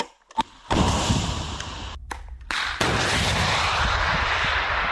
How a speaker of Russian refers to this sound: Группа военнослужащих собралась вокруг пусковой установки противотанкового комплекса «Метис». Короткий инструктаж, установка ракеты и выстрел.